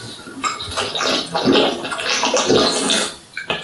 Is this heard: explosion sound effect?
no